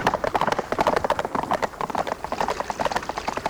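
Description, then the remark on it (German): Several horses gallop, their hooves clip-clopping in a rapid, continuous drumming rhythm that stays loud and busy throughout. “Hey, was ist denn mit den Pferden los? Ah, sie wittern Wasser.”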